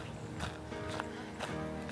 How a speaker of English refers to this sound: The leaves crackling underneath my feet.